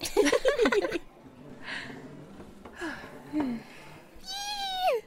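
A single drawn-out cat meow, clear, rises then drops in pitch at the end, following a burst of laughter and some quieter vocal sounds.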